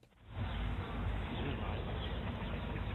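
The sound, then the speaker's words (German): A steady rushing fills the scene at a quiet spot, with a few small birds chirping faintly in the background behind it. “Ihr hört es rauschen und ihr hört hinten ein paar Vögelchen zwitschern.”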